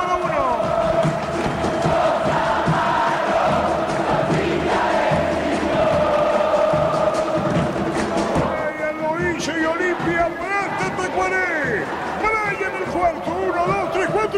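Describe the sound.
A stadium crowd roars in celebration of Brian Montenegro's goal for Olimpia against Tacuarí, making it 4–0: a loud, dense, unbroken wall of cheering and chanting, with a man's voice calling over it and shrill whistle-like sounds rising in the second half.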